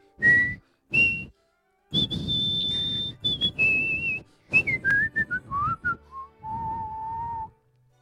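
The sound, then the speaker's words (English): A person whistles a dramatic melody alone, with two short sharp notes, then a long sustained high tone, followed by a series of quick descending phrases ending on a low held note. “I think it's probably enough whistling.”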